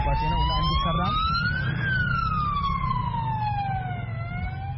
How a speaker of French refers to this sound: Tout comme l'ambulance classique, elle a une sirène, un petit lit.